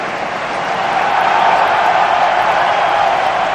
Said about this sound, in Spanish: Esta es la ovación que ha recibido hoy Nico Williams en su regreso a San Mamés.